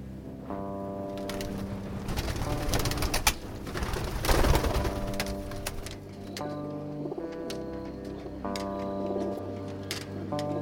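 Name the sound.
racing pigeons cooing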